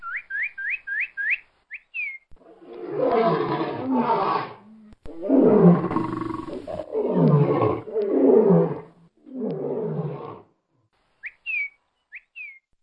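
A lion roars loudly in a run of four or five deep, rasping bursts, framed before and after by quick sets of short rising whistle chirps.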